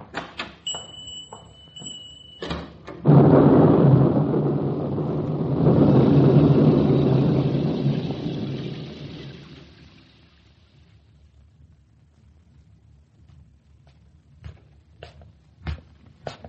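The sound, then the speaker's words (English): A thunderstorm: a loud, low thunder roll rumbles for several seconds, swells, then fades away. Brief clicks and a short tone come before it, and a few faint knocks follow. No one speaks. “By the time I got home, the storm outside had stopped,”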